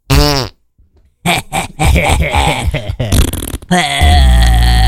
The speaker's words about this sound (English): Sit in my fucking farts.